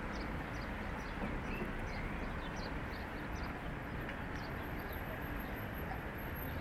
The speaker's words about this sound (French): Un peu plus les oiseaux par ici.